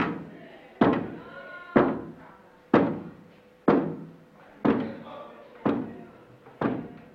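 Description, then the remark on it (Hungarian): A steady series of about seven or eight dull, solid knocks, evenly spaced roughly once per second, fairly loud, with a faint murmur of voices underneath. The knocks follow a request to knock 8 times for yes or 16 for no to the question of whether extraterrestrial beings visit Earth nowadays. “Ha igen, koppancs 8-at, ha nem, akkor koppancs 16-ot.”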